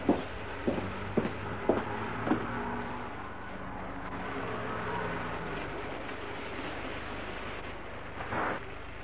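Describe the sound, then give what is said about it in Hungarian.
A car pulls up at night, its engine droning steadily over a hissy background, with a few sharp knocks near the start and a brief louder whoosh toward the end. No one speaks. “Most jött egy kocsi, hallott, gyere.”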